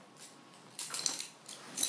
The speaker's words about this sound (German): Dein Schlüsselbund.